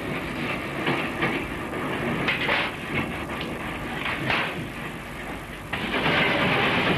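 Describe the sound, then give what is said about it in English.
A train rumbles past, a steady loud roar with rhythmic clattering bursts from the wheels on the rails, swelling louder near the end. No voices. “In the evolution of the railways, when a train passed, the first thing a signalman would do was to immediately reset his signals to danger.”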